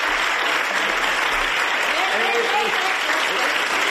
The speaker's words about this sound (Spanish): Sánchez recibido entre aplausos por los suyos en Ferraz.